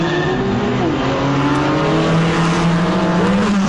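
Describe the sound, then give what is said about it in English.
Cars, including a Porsche, roar loudly as they accelerate hard down a drag strip, engine pitch climbing through gear shifts, with a faint tire squeal in the steady, dense engine noise. “That Porsche just took it to that other car.”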